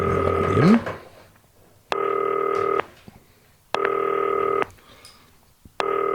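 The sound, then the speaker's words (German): A FaceTime call to Werder Bremen player Kevin Möwald, placed from a modified green telephone, rings out in repeated bright electronic tone bursts. Each burst lasts under a second, with short silent gaps between, four in a steady pattern with no one speaking. “Es klingelt.”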